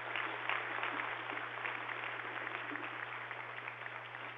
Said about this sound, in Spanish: Lo aplaudimos desde el fondo del alma, mi general.